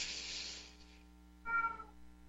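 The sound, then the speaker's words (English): A breathy, hissing burst opens, followed after a pause by a short, clear meow from a female pet cat, moderately loud, with a low steady hum underneath and no talking. “Well, I'm sorry if you folks can still get any audio from my cat.”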